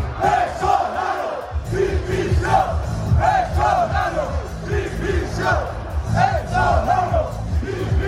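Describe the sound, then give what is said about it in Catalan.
A large crowd of Valladolid football fans fills a city square, celebrating the club's promotion to the first division. They chant together in rhythmic, repeated phrases, voices swelling and falling in a steady cadence, loud and continuous throughout with a dense roar beneath. “Acabem amb un vídeo que s'ha fet viral, la celebració per l'ascens a primera divisió del Valladolid des del balcó amb la plaça plena d'aficionats.”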